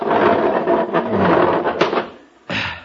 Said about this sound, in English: Step aside and I'll push the love seat.